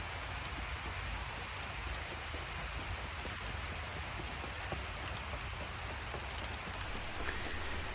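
rain falling

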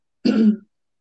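cough

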